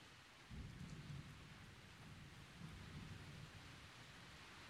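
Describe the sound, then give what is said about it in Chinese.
Steady rain hisses outside throughout while low thunder rumbles twice, each roll lasting under a second and deep rather than sharp, with no voices. “外面还在下雨，又打雷，我害怕嘛。”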